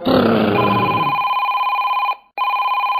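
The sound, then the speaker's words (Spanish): A telephone rings with a steady electronic warble, loud, starting over a brief burst of low noise, cutting off for a split second, then resuming. “El teléfono”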